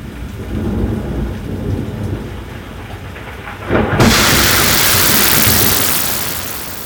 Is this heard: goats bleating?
no